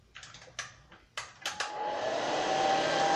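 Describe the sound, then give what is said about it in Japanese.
A few quick clicks and short rustles, then a hair dryer switches on and blows with a steady, rising whoosh, fairly loud, with no one speaking. “洗っちゃって、このドライヤーが。”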